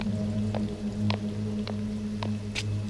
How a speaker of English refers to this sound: Jesus, it's pouring.